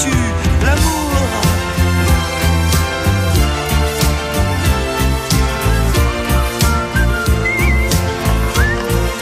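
A whistled melody rides over a loud, full band arrangement with steady drums, the bright whistling tones weaving through the dense music near the end of a song.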